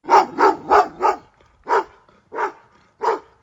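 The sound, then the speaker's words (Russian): A dog barks hoarsely in Grandpa Stepan's yard, a quick burst of four rough barks followed by three slower, evenly spaced ones, with nothing else in the background. “Во дворе деда Степана вдруг хрипло, с надрывом залаяла собака.”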